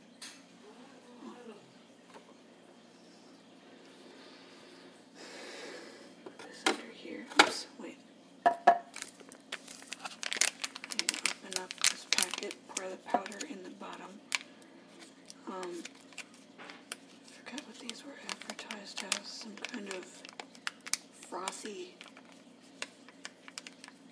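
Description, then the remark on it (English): Crinkling of the packaging of a K-cup type drink pod being cut open with scissors, with a dense run of irregular crackles, rustles and sharp snipping clicks that build after a quieter start and continue steadily. “Just my luck, I'll need a pair of scissors. Hold on. I'm back, it's open, and it smells like it's mocha flavored, I guess.”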